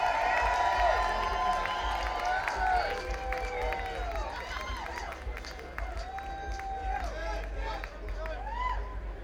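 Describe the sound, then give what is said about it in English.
A crowd breaks into loud, sustained applause and cheering for the musicians on stage while they pause to fix a busted string, with shrill whistles and whoops rising over a steady roar of clapping that barely lets up for the whole stretch. “Can we have a gigantic round of applause for these gentlemen up here working so hard doing this music”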